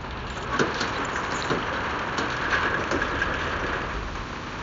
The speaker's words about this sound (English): I'm gonna roll up the gate.